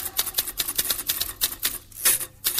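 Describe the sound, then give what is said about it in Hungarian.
Typewriter keys clack in a quick, uneven burst of sharp taps, fairly loud, with a brief pause and a brighter strike near the end, like a carriage bell or return. “De addig írógépen lekopogom, hogy gondolatom felét száll.”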